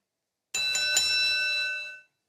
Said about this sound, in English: And we have something called a bell. The bell lets us know when a candidate is done with their 1 minute, 2 minute, or 30 second.